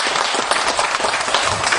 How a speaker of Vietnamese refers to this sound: Bây giờ quý vị cho một tràng vỗ tay cho cô chủ năm.